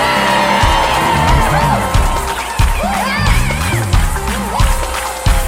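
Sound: audience shouting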